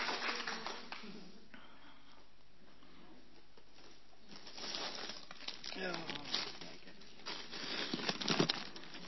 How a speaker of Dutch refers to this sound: Ik denk dat we wat wijzer geworden zijn en ik denk dat we dan een hartelijk applaus verdient. Dankjewel.